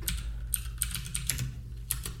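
Keys clacking on a computer keyboard, a steady run of close, crisp taps with a low hum underneath and no voices.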